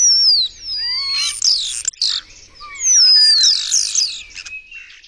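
A common starling sings loud in two busy bursts of whistles, slurred notes and rattling clicks, imitating other birds' calls, with no talking.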